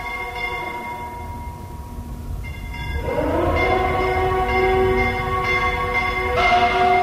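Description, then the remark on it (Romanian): A mournful siren swells up and wails steadily while bells ring on and off around it, a loud, sustained blend of tones with no voices. “Sirena asta înspăimântătoare și clopotele.”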